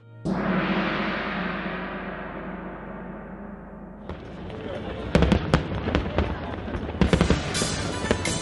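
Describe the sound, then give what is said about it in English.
Loud fireworks shooting up into the sky over Victoria Harbor in Hong Kong by the skyline, amid large crowds: a big booming burst rolls out and slowly fades, then a dense run of sharp crackles and bangs pops in quick succession, with faint voices underneath. “You could see the skyline and then just fireworks shooting up into the sky to the point where the sky was clouded because there was just so much going on.”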